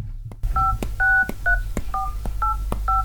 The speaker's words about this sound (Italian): Il signor Brochard prova più volte a chiamare Marlène, ma il telefono è sempre occupato.